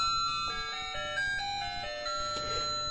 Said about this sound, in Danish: Og ja, hvad sker der så i baggrunden? Der sker lidt et lille klokkespil i baggrunden. Det er bare hyggeligt. Det er sådan en lille juletræ, der står her ved siden af og pynter utrolig godt.